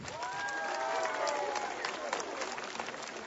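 A large crowd of pilgrims on Jasna Góra square claps warmly to greet one another, a dense, continuous patter of many hands, with a few raised voices and cheers mixed in at the start.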